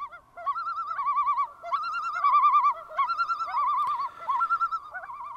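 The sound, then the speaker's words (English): A pair of loons call together in a duet, claiming territory and pair bonding, their rapid, quavering tremolo cries overlapping and wavering in pitch. The calls run steadily for several seconds, fairly loud, with no one talking. “You're hearing the two in a duet there. This is that pair bonding and just that haunting echoing.”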